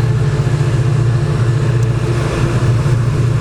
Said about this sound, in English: I'm going to have to apologise, we've got one of these coal trains roaring through here. I'm just walking up over a rail bridge.